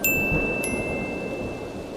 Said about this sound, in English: And it started to rain.